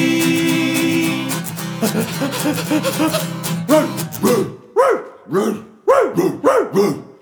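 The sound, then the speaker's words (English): A small dog yaps repeatedly in quick, high-pitched bursts, first over a steady humming tone, then in sharper, separate barks with short pauses between them. “Yapping, tugging, pulling, panting, waiting patiently.”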